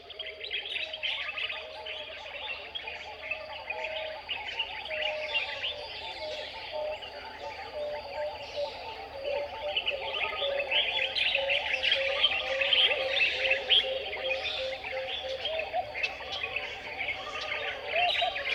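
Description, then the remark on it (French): A dense chorus of many birds calling and singing at once on the island of Gior in the Sine Saloum, Senegal, with soft turtle dove coos and bright, ringing calls of a yellow-crowned gonolek weaving through a steady, continuous wall of chirps and whistles. “Je laisse aller cette écoute où les tourterelles foisonnent, où la gonolèque de Barbarie résonne, où de nombreux oiseaux m'étonnent.”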